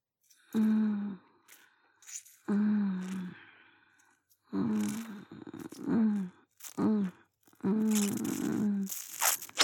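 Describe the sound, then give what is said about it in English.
A voice lets out a series of breathy gasps and low, rough growls, about six bursts separated by brief pauses, with no words spoken. “Keep up those little gasps and growls.”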